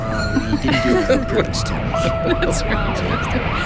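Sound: police car siren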